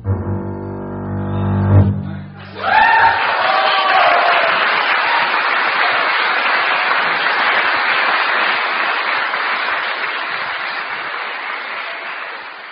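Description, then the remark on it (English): Two low, sustained string bass notes end a difficult piece for string bass, then an audience at a Bang on a Can Live performance breaks into loud, dense applause with a few cheers, clapping steadily for about ten seconds without letting up. “And after I play these last two notes, I hope you won't fail to show your appreciation.”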